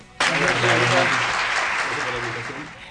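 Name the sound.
applause sound effect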